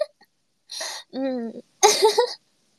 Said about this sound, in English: Sorry if you guys hear my throat burps. I ate a couple crackers and now my stomach is full and uncomfortable.